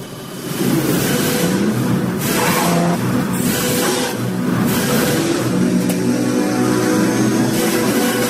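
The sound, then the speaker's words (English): An Aston Martin car engine revs loudly, a sustained, throaty roar that swells and surges repeatedly for several seconds with no one speaking. “Aston Martin, of course, releasing the new DBX 707.”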